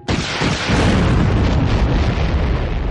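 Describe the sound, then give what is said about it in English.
An armored vehicle's cannon fires an armor-piercing shell that is hit by a laser blast while still inside the barrel, exploding with a sudden, powerful blast, then rolling into a heavy rumbling roar that stays loud for several seconds. No voices are heard. “"Not shooting at his armor, me," she murmured, and she held down the triggers as the GAV's cannon bucked with the launch of an armor-piercing shell. That met a laser blast, nose first, while still inside the barrel.”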